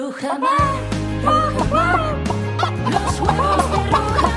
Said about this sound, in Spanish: Mira cómo se escucha a todas las gallinas. Claro que sí, porque las gallinas en las granjas Rujamar están cuidadas como reinas, como lo que son,